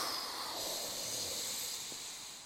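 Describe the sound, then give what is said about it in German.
A voice imitates a bear asleep in its cave beside its cubs, snoring with one long, breathy, rasping hiss, fairly steady, with no talking. “Mit dem Schnarchen des Gerechten.”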